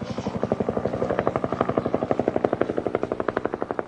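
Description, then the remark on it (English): A police helicopter ferrying reinforcements flies overhead, its rotor beating in a rapid, steady thumping chop, loud, with engine whine underneath and no voices. “Suddenly, a police chopper appeared on the horizon, ferrying reinforcements for Aristide's beleaguered ranks waiting somewhere in the city.”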